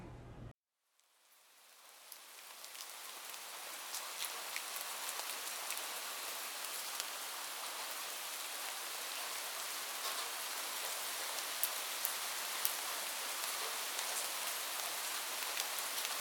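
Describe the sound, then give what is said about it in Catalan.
Steady rain falls continuously, a dense hiss of droplets with scattered sharper patters, swelling in after a brief silence at the start and then holding an even, moderately loud level with no voices. “Aquestes gotetes cauen per efecte de la gravetat i s'origina la pluja.”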